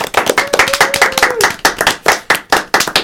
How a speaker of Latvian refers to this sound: Aplausi jums!